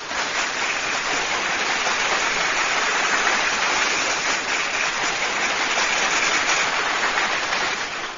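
A steady burst of applause, many hands clapping densely and evenly at a fairly loud level for around eight seconds, with no voices heard over it.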